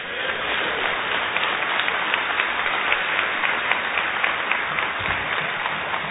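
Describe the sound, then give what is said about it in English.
An audience applauds steadily for about six seconds, a dense, even wash of many hands clapping at a constant, fairly loud level with no voices standing out. “You're clapping, but almost every one of you has a youth ministry in your church that is operating unbiblically.”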